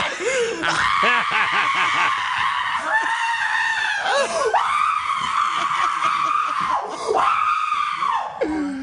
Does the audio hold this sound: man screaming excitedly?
yes